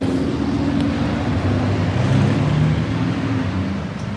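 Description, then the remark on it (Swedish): A steady, dense roar of traffic with rumbling engine tones, like many cars rushing past across several lanes and levels at Hötorget, continuous and fairly loud throughout with no voices. “Ljudet från bilar som i flera filer och nivåer rusar fram på Hötorget.”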